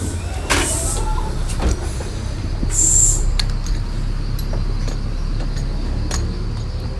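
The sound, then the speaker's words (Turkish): Inside an old city bus with two entry steps, pulling up to the Nispetiye stop, with a steady low engine rumble, a hiss of air brakes, and doors clattering and thumping as they open. “Binip binebileceğim en eski otobüse denk geldim arkadaşlar.”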